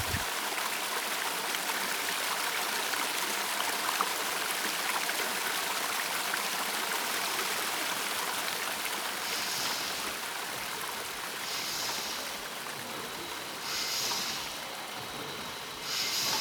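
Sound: stream water flowing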